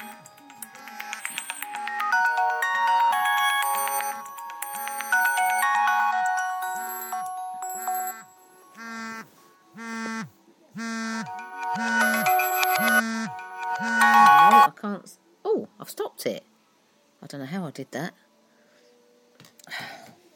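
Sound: mobile phone ringtone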